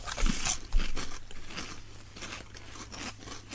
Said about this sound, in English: Let's try one. No, you've got to try it. So we're going to do a collective munch.